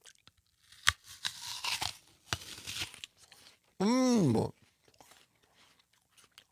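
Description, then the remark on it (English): A sharp crunching bite into a crisp, juicy apple, followed by wet, crackly chewing bursts, with a brief vocal hum of approval in the middle. “So forgive us for eating in front of you, but listen to this pop.”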